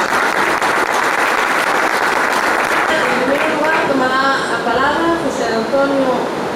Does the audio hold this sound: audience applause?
yes